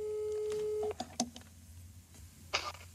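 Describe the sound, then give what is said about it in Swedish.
A steady electronic phone tone holds for about a second, then cuts off, followed by a few short clicks and beeps like a call connecting, with a brief burst of noise near the end, as a telephone call to Anneli Rydé is placed. “Vi ringer Anneli Rydé.”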